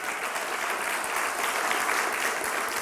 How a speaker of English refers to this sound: We can clap for that, all right?